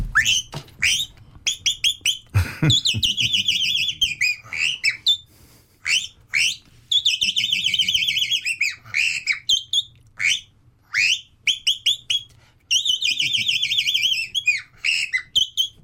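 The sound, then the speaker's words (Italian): A person imitates a chaffinch by whistling into a microphone, bright, rapid chirping phrases in repeated bursts with short pauses between them, loud, over a faint low background hum. “Ci fai un altro uccello, …? Sì. Cos'è? Fringuello.”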